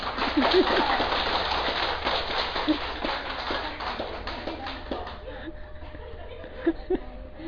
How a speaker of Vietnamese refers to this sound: Trước khi hát cùng vỗ tay mà sau khi hát cùng vỗ tay á.